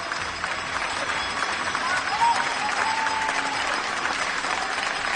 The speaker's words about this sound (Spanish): Para ellos, cada día un aplauso.